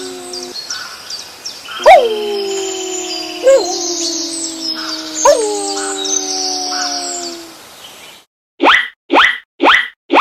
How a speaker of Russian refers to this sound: Покажи, где волк? Верно, ты справился. Это волк.